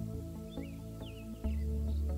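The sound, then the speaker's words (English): A few soft, high bird chirps and tweets scattered across the moment, faint, over a steady low humming drone that swells slightly near the end. “You hear the sound of birds all around you.”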